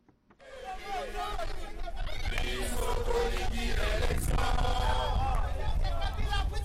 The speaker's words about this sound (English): The singing quickly devolved into angry chanting. Kabila must go, the protesters yelled.